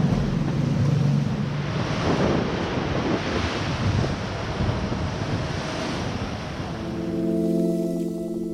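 Strong wind roars steadily over rushing, splashing waves outside a sailboat at night as the wind picks up, loud throughout, with a low droning hum rising briefly near the end. No one speaks.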